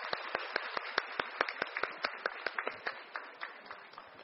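A crowd applauds steadily for about four seconds for a folk healer chosen as the national outstanding Thai traditional doctor, at Thailand's National Herbal Expo. A dense wash of clapping is punctuated by sharp, evenly spaced claps that keep a quick, regular beat. No one speaks over it.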